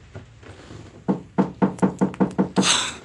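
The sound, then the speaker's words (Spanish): Someone raps on a door: a quick, steady run of about eight firm knocks, preceded by a few faint taps and ending in a short burst of rustling noise. No one speaks. “Toca más duro.”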